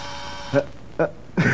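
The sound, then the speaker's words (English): A continuity tester buzzer, of the kind used in the army, gives three short, harsh buzzes at irregular intervals while finding a short in an old car's coil primary lead, the last one longer and brighter, over a faint steady hum. “Now, if it buzzes, I found a short somewhere.”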